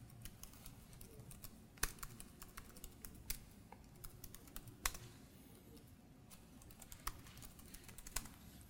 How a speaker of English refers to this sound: So we'll get started by typing in our Microsoft account.